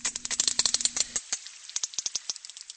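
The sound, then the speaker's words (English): Rapid trains of sharp whale clicks forming coda click sequences, a dense rattling burst at first that thins into a sparser, evenly spaced sequence of crisp clicks. No voices. “They also emulate each other's songs or codas.”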